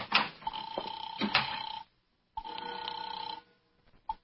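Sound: telephone ringing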